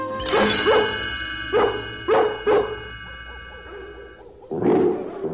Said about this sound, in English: I'm afraid it's up to us now. we'll use the twilight bark to alert all the dogs in London and in the villages nearby.